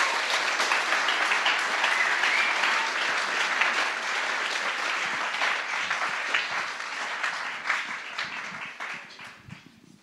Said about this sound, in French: est-ce qu'on peut l'applaudir pour l'accueillir